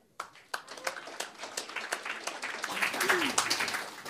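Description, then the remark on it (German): An audience in Frankfurt applauds author Poschmann, who has come to present her novel, scattered sharp claps quickly thickening into a dense, steady patter of many hands that swells toward the end, with a brief voice rising through it. “Und wir müssen uns dann ehrenhalber, und ich hoffe, Sie gutieren das zum Beispiel durch Klatschen, dass Frau Poschmann einen Tag nach ihrem Geburtstag hier nach Frankfurt gekommen ist.”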